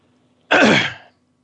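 A single loud cough from a man, one rough burst lasting about half a second, with no talking around it and only a faint low hum in the background.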